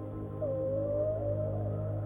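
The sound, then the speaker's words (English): A single long, drawn-out whale song note glides gently downward then holds steady, a clear tonal moan over a constant low underwater rumble, in a peaceful ocean at night under moonlight, with no voices present. “The ocean is peaceful, and the only noise that can be heard distinctly is the whale's song.”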